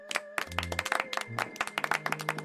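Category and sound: crowd, applause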